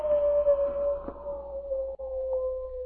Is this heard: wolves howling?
yes